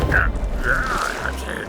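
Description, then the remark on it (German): A lava golem roars with a loud, continuous rumbling growl, layered with grinding, creaking tones that rise and fall in several wavering cries. “Woher kommt dieses Gebrüll?”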